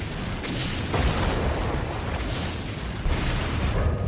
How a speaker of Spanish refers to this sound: Pero cuando hace la maniobra, los temidos torpedos alcanzan el casco del Chicago y estallan con una horrenda explosión.